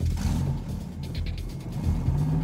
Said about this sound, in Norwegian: Butikksjefen, Pål Roar Bråten, starter opp og bilen ruller ut fra parkeringsplassen.